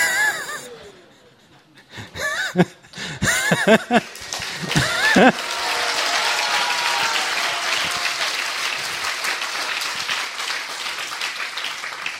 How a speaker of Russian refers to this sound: скобочках, жидкие аплодисменты.